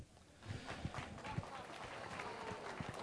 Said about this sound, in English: Wow, they clap for you, man.